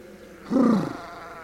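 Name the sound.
sheep bleating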